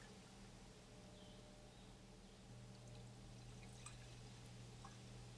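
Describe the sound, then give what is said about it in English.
A steady, quiet stream of tea pours into a cup, with soft trickling and a few light drips over a low background hum, and no one speaking. “Would you like me to pour you one as well?”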